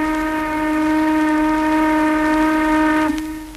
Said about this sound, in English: The largest white pine mill in the world, the one at Virginia, closed on October 9th, 1929. On that day, as the last log was sent through the screaming saw, there was sounded a long blast on the plant whistle.